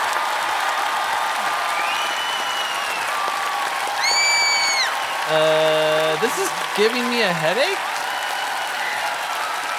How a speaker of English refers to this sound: Who even invented clapping? It's a weird thing to do.